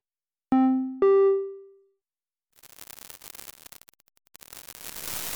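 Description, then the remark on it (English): A data sonification of one week of sea surface salinity data from a sensor array before, during and after Storm Hermine: two clear, bell-like synthetic tones ring out and fade, then a crackling, static-like texture builds, pauses briefly, and returns denser and louder as the storm raises salinity. No voices. “The following data sonification maps 1 week of salinity data before, during, and after the hurricane.”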